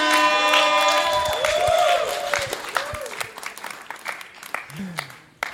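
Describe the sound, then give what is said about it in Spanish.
An audience breaks into applause for a performer, many hands clapping at once, with some crowd voices and whoops over the start, then the clapping thins and fades toward the end. “Fuerte aplauso para él.”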